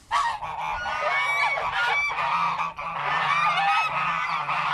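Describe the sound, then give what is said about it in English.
A flock of geese guarding the way to a 6,000-year-old portal tomb on a farm honk loudly and continuously, many overlapping nasal calls, with no pauses and no voices. “But before I could get all Indiana Jones, I had to run the gauntlet of Leo's flock of geese guarding the way.”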